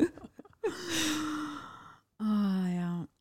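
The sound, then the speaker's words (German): A voice imitates a sister's loud, heavy breathing as she leans over someone's shoulder: a few quick sniffs, then two long, drawn-out breaths with a groaning, sigh-like tone and a short pause between them. “Manchmal, wenn ich mir irgendwas angucke, beugt sie sich über meine Schulter rüber und atmet dann so.”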